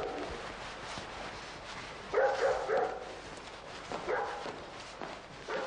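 A dog barks in two short bursts, a quick pair of barks followed by another a moment later, at moderate volume over a steady background hiss with no talking.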